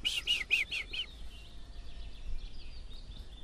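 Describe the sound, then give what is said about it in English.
A willow warbler sings outdoors, opening with a few bright, distinct notes before trailing off into a softer, fading run of high song over a low background rumble. “And there's a lovely willow warbler that.”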